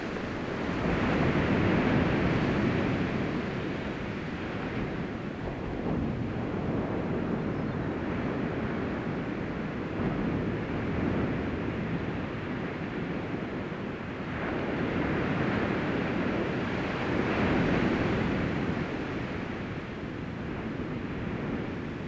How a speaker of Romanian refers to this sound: Acum, în timp ce auziți sunetul valurilor oceanului, așezați-vă în cea mai relaxantă poziție pentru voi.